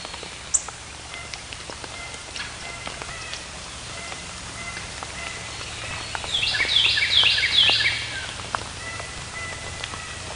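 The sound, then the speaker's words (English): A Carolina wren, recorded by microphones in the White River National Wildlife Refuge in Arkansas, bursts into a loud, rapid run of repeated high, ringing notes lasting about two seconds, over a steady hiss with scattered ticks and pops and no talking. “Yeah, that was a Carolina wren that was screaming in the foreground.”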